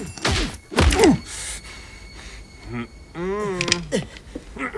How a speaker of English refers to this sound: Keong slugs the mobster.